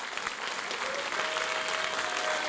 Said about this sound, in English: Will you please give all of our veterans a big clap offering?